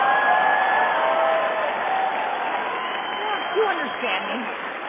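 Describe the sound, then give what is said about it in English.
A crowd claps steadily, a dense wash of applause that stays fairly loud throughout, with murmuring voices and a few raised calls mixed in near the end. “Look at the gay guys, they're like, we're clapping, but we have no idea what football is.”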